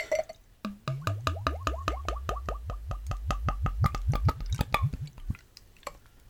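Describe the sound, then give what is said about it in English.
A deep amber wheat-style ale glugs out of a growler in a rapid, rhythmic series of hollow gulping pulses, fairly loud, speeding up as it pours, then trailing off into quiet. “I'm going to say, pouring out of the growler isn't always as easy as it looks.”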